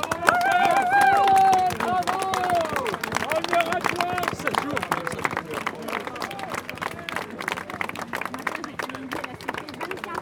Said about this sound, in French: On peut l'applaudir, oui, déjà.